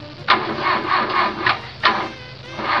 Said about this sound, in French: Elle démarre pas, je sais pas ce qu'elle a !